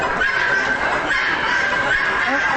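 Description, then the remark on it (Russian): A rooster with a nearly 1.5-meter tail, sitting atop a vertically set 4-meter log at a decorative poultry exhibition in Warsaw, crows, its call drawn out over a dense, steady din of many chickens and other fowl clucking and calling, loud throughout with no voices. “Вот как, например, приветствует посетителей один из петухов, который сидит на верхушке поставленного вертикально 4-метрового бревна, специально для того, чтобы можно было по достоинству оценить его чуть ли не полутораметровый хвост.”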